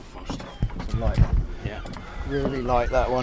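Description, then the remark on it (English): A small boat's low engine rumble and water noise run steadily underneath, with people talking over it, as the little boat carries passengers and their bikes across the River Blythe from Walberswick to Southwold. “for £1 apiece we were able to put our bikes in the boat and cross the water”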